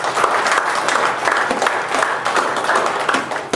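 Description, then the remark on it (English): An audience breaks into steady, sustained applause, a dense wash of many hands clapping at an even level throughout, with no voices standing out. “Give me my hand of applause.”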